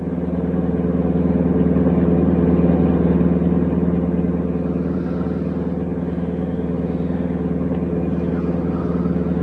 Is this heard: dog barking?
no